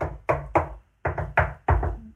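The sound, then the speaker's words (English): Several dull, solid knocks on a bedroom wall, rapped in loose groups of two and three with short pauses between, testing for trap doors or sliding panels. Each knock has a deep thud and a brief ringing tail, and the wall sounds solid. “No trap doors or sliding panels, I suppose. Sounds solid enough, Holmes.”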